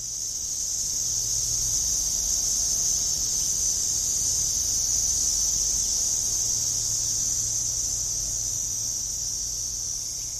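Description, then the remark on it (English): A dense, continuous drone of cicadas buzzes steadily across the landscape for the whole stretch, a loud high-pitched wall of sound that seems to come from everywhere, with no voices and only a faint low rumble beneath. “Next time you're on safari, listen more closely when this buzzing fills the landscape, when it seems to come from everywhere at once.”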